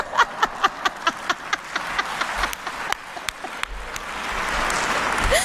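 A single person claps in a quick, steady rhythm of a dozen or so sharp claps. Faint laughter mixes in, and the claps thin out into a soft wash of noise at the end.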